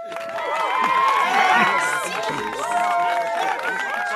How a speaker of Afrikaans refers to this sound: Almal kyk verbaas toe en die toeskouers juig.